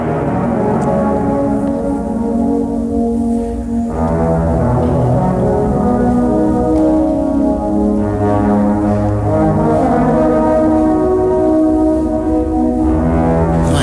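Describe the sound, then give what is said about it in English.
A trombone plays long, sustained low notes at the bottom of an empty built-in cement pool under an arched ceiling, each tone swelling and blending into heavy echoing reverb as the pitch shifts every few seconds. No one speaks. “Did you ever think about playing a trombone at the bottom of an empty built-in pool?”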